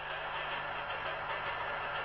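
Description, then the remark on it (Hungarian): The recorded sound of a rattling train, played from a box in the corner of an exhibition, clatters on in a steady, continuous wash of rumbling noise with a low hum underneath, fairly loud and unbroken, with no voices. “A sarokban, egy ládában zakatoló vonat ismétlődő kattogása hallatszik.”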